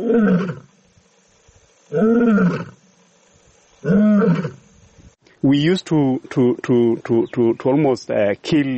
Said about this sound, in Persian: ما تقریبا هر شیری رو که صدای غرشش در امبروسلی میشنیدیم میکشتیم، حتی اگه شیر هیچ چه کاری نکرده بود.